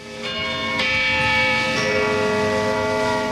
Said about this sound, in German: Wenn es in Zürich Mittag ist, hört man 12 dumpfe Schläge vom St. Peterturm und das Knurren von 500.000 hungrigen Mägen.